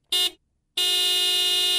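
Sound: car horn honking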